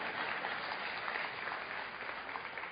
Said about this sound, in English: All right, this is what the same plant looks like when you let it grow. And you can clap for it if you want. It's okay.